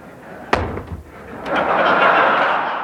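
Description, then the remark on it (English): Ronald Reagan drops a 1,053-page, 14-pound conference report during the 1988 State of the Union: a single heavy, dull thud on a hard surface, followed moments later by a swelling wash of applause in the chamber that stays loud to the end. “Reagan at least made a show of dropping it so he could pick up the thud, and then he shook his wrist a little like he had carpal tunnel syndrome.”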